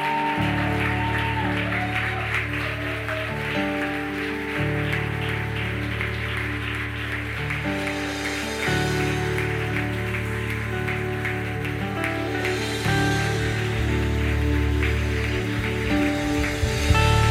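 crowd, audience applauding in praise

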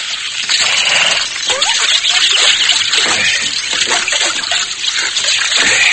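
nature, water splashing

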